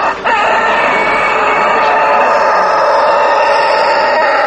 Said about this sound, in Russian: Но, как это ни странно, воспроизводится в языке крик петушиный по-разному. У французов, например, петух кричит не кукарику, а кокорико.